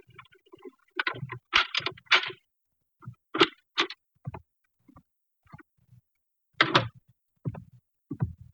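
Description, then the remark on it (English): Muffled footsteps thud irregularly as someone comes down a hall, followed by sharp metallic clicks and rattles of a key being worked into the lock of an apartment door. There's no talking. “Then we heard muffled footsteps coming down the hall and a key inserted in the lock of the apartment door.”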